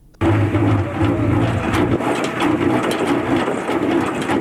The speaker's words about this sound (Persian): این صدای ماشین عسل‌کشی در کوههای بلند اندراب است. کوههای پوشیده از گل و گیاهان رنگارنگ کوهی که بهترین محل برای پرورش زنبور در بغلان به شمار می رود.